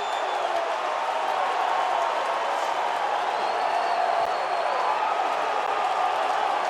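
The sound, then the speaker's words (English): A huge stadium crowd cheers a New Orleans Saints touchdown on a blocked kick, in one loud, sustained roar, a dense wall of voices and scattered whoops that holds steady without a break for the whole stretch. “Just listen to this crowd.”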